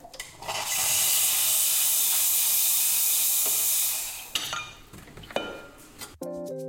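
A coffee machine in the Coffee Lab at the Easter Campus lets out a loud, steady hiss of steam for about three seconds, then fades, followed by a few light clinks of cups and dishes.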